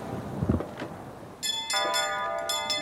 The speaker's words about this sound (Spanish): Suenan ya las campanas.